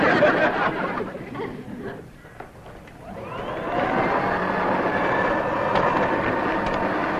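An old vacuum cleaner motor roars, sags for a moment, then whines back up with rising tones into a steady, loud, rattling drone.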